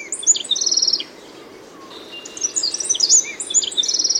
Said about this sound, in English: Flute-like voices of rufous-browed wrens echo through the forest.